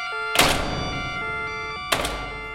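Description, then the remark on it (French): A door is shut with a solid thunk, and a second similar bang follows about a second and a half later, fairly loud over a steady background hum. “Piste 13, porte fermée.”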